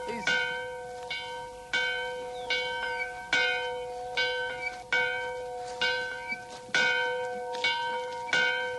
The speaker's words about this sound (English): Nope, but his bell's still ringing.